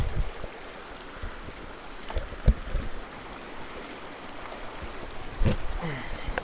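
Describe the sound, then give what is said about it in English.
Steady rushing of flowing water fills the scene, with a couple of sharper splashes or sloshing thumps, as someone crosses a flowing river on foot. No one speaks. “All right, hold on, river crossing.”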